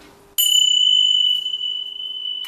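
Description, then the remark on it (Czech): A bell is struck once in a children's classroom lesson and rings with a bright, high, clear tone that sustains and only slowly begins to decay, fairly loud, while listeners with closed eyes and raised hands wait until they can no longer hear it. No one talks. “Všichni zavřou oči, zvednou ruku a tu ruku dají dolů až v okamžiku, když přestanou ten zvon slyšet.”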